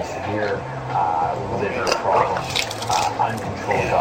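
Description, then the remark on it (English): Wet, heavy splashing of a big vomit, followed by dripping and trickling liquid, steady for a few seconds, with vocal sounds mixed in underneath. “Yeah, that was a big puke right there.”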